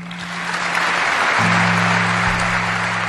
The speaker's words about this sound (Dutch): De dag begon met een lang applaus van alle bondsdagleden voor Angela Merkel. Want Angela Merkel is dus na 16 jaar bondskanselier nu met politiek pensioen. En alle bondsdagleden stonden op en gaven hem niet lang een applaus voor Merkel.